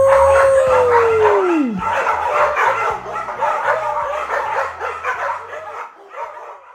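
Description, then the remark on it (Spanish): A single long dog howl slides steadily downward in pitch and fades out within two seconds, over a busy, loud, layered background of bright tonal sound that continues to the end. “Pues, ¿listos para comenzar? ¡Vámonos! ¡Aú!”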